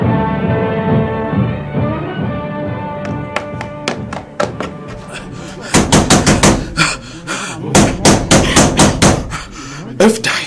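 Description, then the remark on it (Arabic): Repeated knocking on a door as someone demands that it be opened, starting as scattered raps and building into rapid, loud, insistent pounding in bursts, over a sustained musical drone with some voice in the background. “افتح الباب يا أم حكيم، افتح الباب يا امرأة.”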